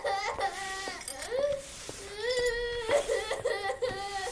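A young child cries and wails continuously, with rising and falling sobbing notes, the crying filling the whole stretch with brief catches of breath between cries.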